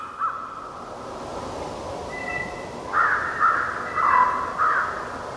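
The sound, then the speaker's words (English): Two packs of wolves converging on each other whisper-howl before howling: long, wavering tonal howls overlap in a steady, wind-like chorus, then a run of four shorter rising-and-falling cries stands out more loudly toward the end. No one speaks. “This sound here is wolves.”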